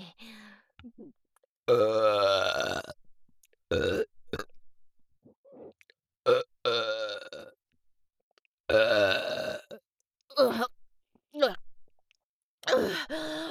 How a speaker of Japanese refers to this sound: くっさいわね。最後にもう一発、特大ゲップを鼻っ面に。